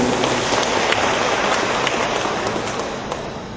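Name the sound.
audience applause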